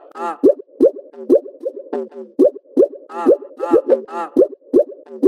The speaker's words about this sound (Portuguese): Olha o barulho da água.